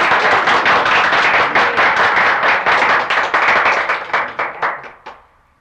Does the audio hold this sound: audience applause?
yes